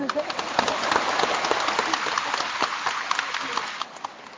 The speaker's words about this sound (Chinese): 鼓掌